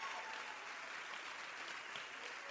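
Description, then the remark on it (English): Steady, sustained applause from an audience at the Eritani Theater in Los Angeles, for the partners at the Japanese American Cultural and Community Center, a dense wash of many hands clapping at a constant loudness throughout, with no voices standing out. “You may give them an applause.”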